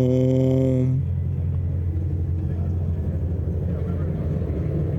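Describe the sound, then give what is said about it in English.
An electric car's artificial engine sound: a synthetic, steady humming tone with stacked harmonics plays for about a second, then gives way to a low, continuous vehicle rumble that lasts to the end, fairly loud. “The last time around, I was like, okay, that sounds different than a gas-powered car. It's like some new sound.”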